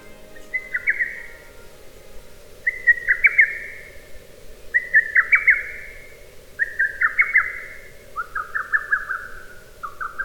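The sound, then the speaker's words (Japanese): A lesser cuckoo (hototogisu) calls five times in a row, each quick, sharp whistled phrase repeating about every two seconds. The calls ring out clearly over a steady low background hum, with no talking. “鳥の中でも最も多く登場するのはホトトギスです。”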